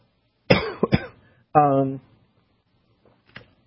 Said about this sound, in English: trying to think of some other ones, when I don't cough to death.